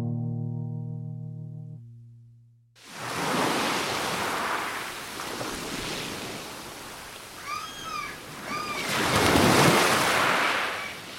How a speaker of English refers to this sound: The ocean. It's the place to clear my head, lose myself in a novel, get my creative juices flowing.